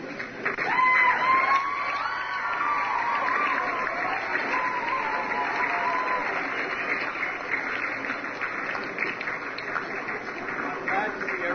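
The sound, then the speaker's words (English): An audience in the St. Pius X auditorium claps steadily for about ten seconds to welcome a speaker, the applause dense and sustained at an even loudness, with a few brief tonal whistles or cheers rising above it early on. “Please join me in giving a warm St. Pius X welcome.”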